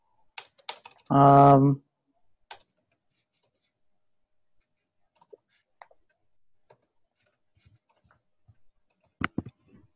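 Sparse, irregular computer keyboard taps and mouse clicks, fairly quiet, scattered over mostly silent stretches, with one brief loud humming tone near the start.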